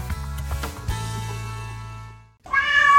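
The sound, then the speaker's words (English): A cat lets out a single loud meow near the end, following a stretch of low, humming tones that fade into a brief silence. “400,000 stray cats prowl the streets of Philadelphia, according to ACCT Philly.”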